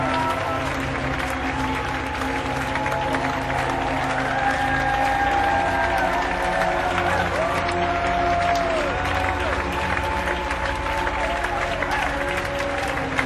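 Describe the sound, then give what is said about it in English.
A concert audience applauds steadily and loudly for the band as it comes out for a second bow, a dense wash of clapping with scattered cheers and whoops rising above it, holding at an even level throughout. “And the audience applauding for the band.”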